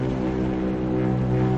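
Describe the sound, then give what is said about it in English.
A steady, droning engine hum from a sludge tanker ship at sea, low and tonal with layered harmonic tones, holding constant and unbroken throughout with no voices. “Well, that was the sludge tanker over there, but there you go.”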